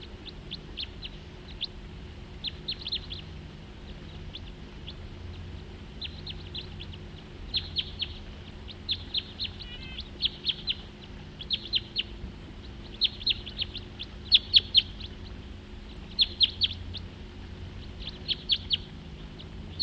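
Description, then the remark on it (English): Two crossbills together in the same tree give short, high chirping calls in repeated bursts, trading notes over a steady low hum. The calls come in quick clusters with brief pauses between. “Two birds together now, in the same tree.”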